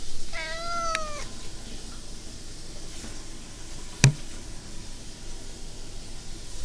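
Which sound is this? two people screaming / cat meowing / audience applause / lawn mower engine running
cat meowing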